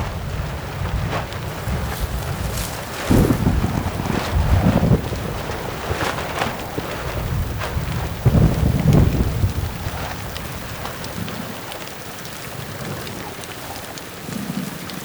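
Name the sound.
heavy rain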